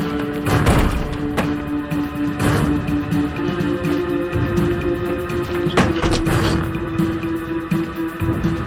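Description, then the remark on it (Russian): Several sharp gunshots crack out at irregular intervals, a couple close together near the end, over a steady droning hum that runs throughout. No one speaks. “Выстрелы, выстрелы.”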